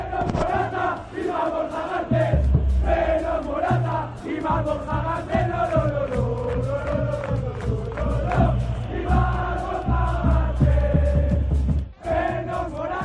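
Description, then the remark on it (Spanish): A large stadium crowd at the Metropolitano chants "Vikingo, vikingo" in unison at Álvaro Morata, then an Atlético Madrid player, a loud, rhythmic sung chant repeated over and over with a steady swell of many voices and a brief dip near the end. “Vikingo, vikingo, le gritaban en el Metropolitano cuando Morata era ya futbolista del Atleti.”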